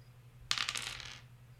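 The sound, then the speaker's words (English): A D100 die is rolled for treasure, clattering across a hard tabletop in a quick burst of rattling clicks that lasts under a second and fades out, with no one talking. “Go ahead and give me a D100.”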